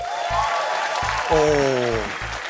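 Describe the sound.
An audience claps steadily for a couple of seconds, a dense, even wash of applause with some voices cheering over it and a few low thumps underneath.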